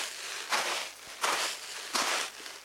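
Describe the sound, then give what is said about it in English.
Three slow, crunchy footsteps in the sand of a sand pit, used to make snow sounds, each a broad gritty crush that mimics walking on snow, evenly spaced with a soft hiss between steps and no voices. “Other times, they'll just use the sand in their sand pit.”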